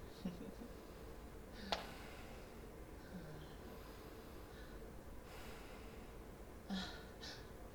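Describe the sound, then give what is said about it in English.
Someone breathes heavily and quietly, a few rough, snorting exhales spaced irregularly over a steady low hiss, with no one speaking. “I can hear you breathing.”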